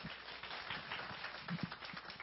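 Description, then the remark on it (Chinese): A church audience applauds to welcome an association's secretary-general as guest speaker, a steady, dense patter of many hands clapping at once, fairly soft and continuous for a couple of seconds, with no voices. “我们拍手欢迎他。”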